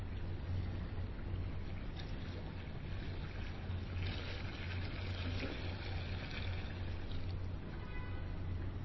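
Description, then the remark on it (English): Water pours steadily into a baptismal font as it is blessed during a baptism: a continuous splashing trickle with a low rumble underneath, even in loudness throughout, with no one speaking. “Blessed by your Holy Spirit, gracious God, this water.”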